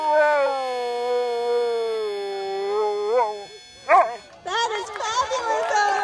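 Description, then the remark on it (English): A dog, Otis, an Akita and Chow mix from Littleton, New Hampshire, lets out a long, wavering howl lasting a few seconds, fairly loud, followed by a short sharp yelp and then muffled voices and background noise. “He is an Akita and Chow mix and whatever else he could possibly be.”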